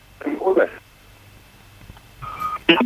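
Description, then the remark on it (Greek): Short electronic phone beeps come through in two brief bursts, separated by a quiet gap, as a phone call drops, with faint voice-like sounds mixed into the tones. “Α, αυτό το τηλέφωνο έπεσε.”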